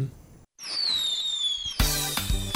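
A 2019 firework whistles with a slowly falling pitch for about a second, then bursts loudly into a sustained crackling explosion, prominent with no voices.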